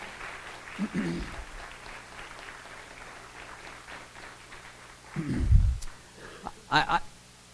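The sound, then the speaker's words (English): An audience claps steadily for several seconds in a round of applause for its oldest members on an oldest members Sunday, a soft, diffuse patter with a few low thumps and sharper clicks near the end. “Let's give all of our oldest members a round of applause.”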